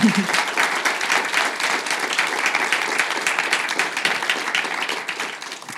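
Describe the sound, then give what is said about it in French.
An audience bursts into steady, sustained applause for guest Sophie Binet, head of a major French trade union, as she is introduced one evening. Many hands clap together in a dense, even roar that holds for several seconds before tapering slightly at the end. “Bonsoir, vous pouvez l'applaudir, n'hésitez pas.”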